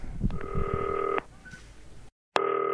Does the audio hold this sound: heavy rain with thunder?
no